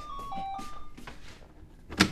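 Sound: doorbell ringing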